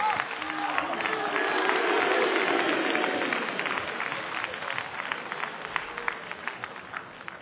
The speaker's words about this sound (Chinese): 谢谢，谢谢各位给我一个人的掌声。明明上来俩人啊